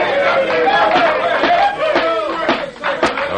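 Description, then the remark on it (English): A courtroom audience breaks into a loud, sustained burst of applause mixed with excited chatter and murmuring, filling the room continuously for several seconds. “I sincerely hope that applause was not meant for me.”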